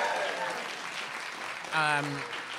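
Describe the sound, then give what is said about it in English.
Steady audience applause fills the whole stretch, a dense hiss of many hands clapping, with a brief voiced whoop or cheer rising out of it near the end. The audience claps for itself at the end of a live show. “Thank you all for coming to the show. You can clap for yourselves, please.”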